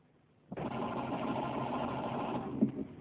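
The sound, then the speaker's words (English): A car engine cranks over and over with a steady, whirring grind that begins abruptly and runs for about two and a half seconds without catching. “The car won't start.”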